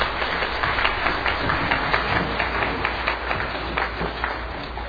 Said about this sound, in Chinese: 谢谢青少年管弦乐团，让我们再一次鼓掌给他们鼓励好不好。